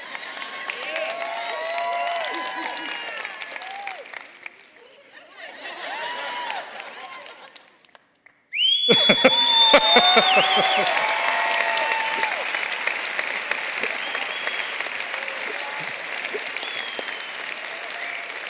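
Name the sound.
person whistling loudly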